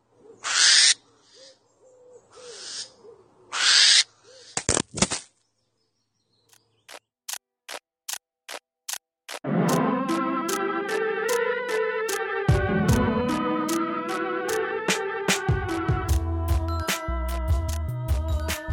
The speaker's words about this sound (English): For now, here's what it sounds like when two barn owls discover a hidden camera that is spying on them, get very angry about it, and destroy the camera.